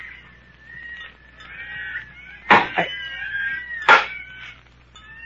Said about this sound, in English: Hey, what's that? Monkeys. Listen.